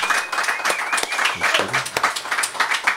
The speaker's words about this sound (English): For a live episode, we would like to thank everybody for coming along. Give yourselves all a big round of applause.